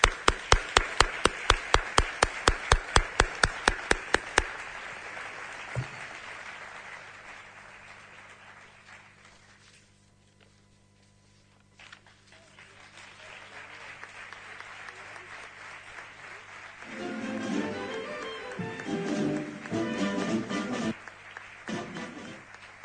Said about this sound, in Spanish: Un abrazo, un aplauso.